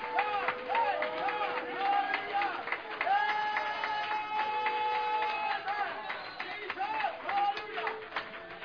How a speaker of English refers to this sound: One more time before you're seated, clap your hands, all your people, and shout unto the Lord with the voice of triumph. Hallelujah!